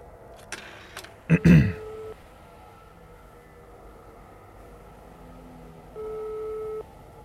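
A few clicks and a brief clatter, like a handset being picked up, followed after a quiet pause by a single steady electronic ringing tone heard through a phone line during an outgoing phone call.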